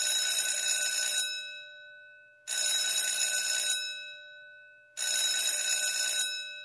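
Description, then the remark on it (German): A theatre bell rings three times, each loud, rattling electric ring lasting just over a second before cutting off, separated by short pauses of silence. No voices. “Es hat dreimal geklingelt.”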